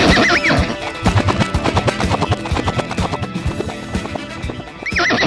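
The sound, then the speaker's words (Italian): A horse called Cavaldonato whinnies at the start, then its hooves clip-clop in a steady rhythm before another shrill neigh rises near the end. “Col cavallo, ciao amici e ciao Paolo Tocco, sono arrivato con un cavallo”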